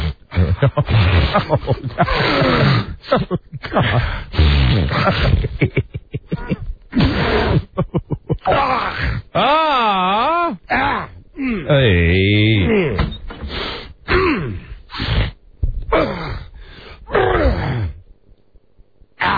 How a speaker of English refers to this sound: You okay? Hold on, he's going to cough something up. Yeah, there hang in there,